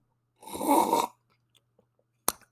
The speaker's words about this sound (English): Let me just sip some tea really fast. See if that gets my juices flowing.